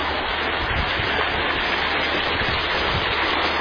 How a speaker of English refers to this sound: And this is the video of the creek. This is what people have requested, to just see this beautiful creek. You can see now, before we got the property, you could not walk here.